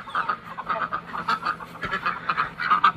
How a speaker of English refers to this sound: Hi, ducks. Where's Bumblefoot? Did you leave Miss Bumblefoot because she's a little slow?